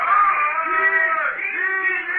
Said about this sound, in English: They're beginning to warm up, all right. Yeah, but what's all that ding-ding they're shouting? You ever heard that before? I can hear them,